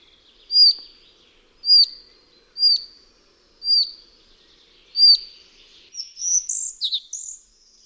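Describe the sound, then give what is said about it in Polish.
A bird of the species called chochołówka białoszyja in Polish gives five short, high, modulated whistle calls at roughly one-second intervals, followed by a quick burst of varied, higher chirping notes. No voices are present. “Charakterystycznym dla niej dźwiękiem są pojedyncze, krótkie, modulowane gwizdy, podobne nieco do głosu kontaktowego świstunki.”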